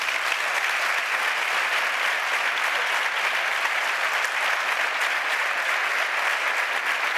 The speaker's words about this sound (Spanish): Es la verdad. Es la verdad. No era para el aplauso. Es la verdad.